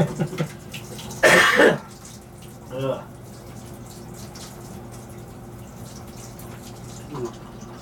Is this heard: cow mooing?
no